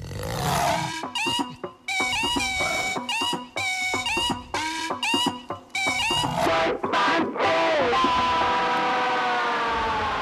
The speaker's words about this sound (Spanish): Oye, lo que yo no sabía es que había panteras que emitían rugidos electrónicos.